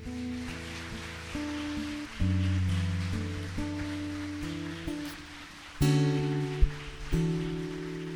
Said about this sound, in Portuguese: Palmas para Jesus.